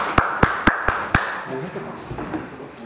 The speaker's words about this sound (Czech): Tak můžete tleskat, nebudete zavřeni. Skvělá práce.